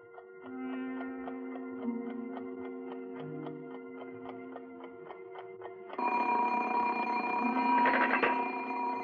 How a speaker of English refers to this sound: Hello? Oh, I'm sorry, operator. It's my alarm clock.